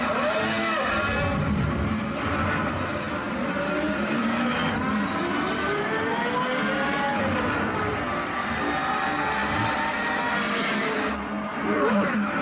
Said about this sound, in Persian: دوره اول شروع شده و ماشینا پشت مرشال در حرکت هم. توی ساعت آینده برنده امسال سری مسابقات ایندیانا پلیس معرفی خواهد شد.